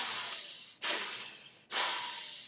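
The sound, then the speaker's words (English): Deep, heavy breaths in close succession, each a loud, airy rush of about a second that starts sharply and slowly fades, with no talking. “So light breathing. It's not deep breathing.”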